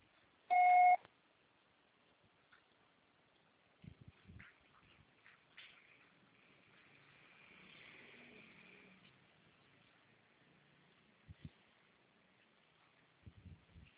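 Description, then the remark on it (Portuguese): A single loud, steady voicemail beep, the signal after a Portuguese-language prompt to record a message, sounds at the start, lasting under a second, followed by a mostly quiet line with faint hiss, soft rustling and a few dull clicks. “Grave seu recado. Processar será tarifado após o sinal.”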